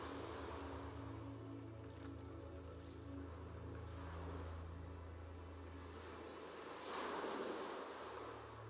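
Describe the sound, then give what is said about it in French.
A steady, broad wash of surf murmurs from a distance, with a low rumbling undertone and a gentle swell in loudness near the end. No voices. “Au loin, le murmure des vagues.”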